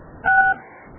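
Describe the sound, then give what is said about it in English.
A single telephone keypad tone from pressing star 6 on a phone call, a steady two-note electronic beep lasting about a third of a second, sounds out clearly against quiet line noise, with no talking. “I need you to press star 6 and then press star 6 again.”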